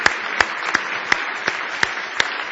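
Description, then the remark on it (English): A church audience claps together in praise to the Lord, a dense wash of many hands with sharp accented claps landing on a steady beat, about seven strong hits in a row. No one speaks over it. “Why don't you give the Lord a big hand clap of praise tonight?”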